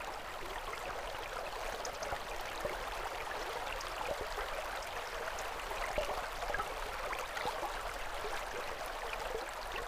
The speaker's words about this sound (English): Because I have a weakness for fishing with flies, I find myself one summer evening bent over a stone bridge, gazing at a fat trout in a gin clear stream, and listening to the water.